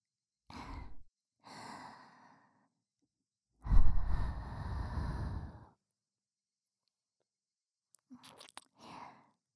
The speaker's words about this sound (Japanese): 吐息も欲しいんだったっけ。